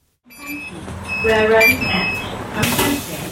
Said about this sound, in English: My morning commute is not as lonely these days. More people are riding the bus, and once again, playing music or TV series from their smart tablets at full volume, like this man across the aisle from me.